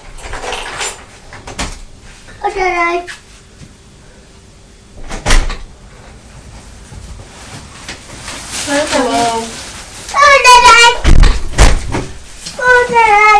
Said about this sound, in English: Mummy's going to open the door for Daddy. So remember to ask him how he is.